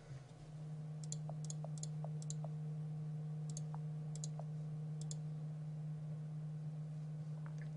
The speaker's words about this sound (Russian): Переходим на написание твита, выбираем изображение. Печатаем.